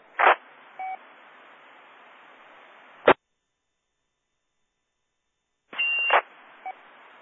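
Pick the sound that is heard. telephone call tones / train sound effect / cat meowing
telephone call tones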